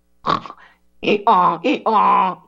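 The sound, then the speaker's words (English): A man's voice imitates a donkey's bray, mocking Kamala Harris's laugh, starting with a few short breathy bursts and then giving two long, strained hee-haw calls, with no other sounds around it. “Let me do my donkey impression.”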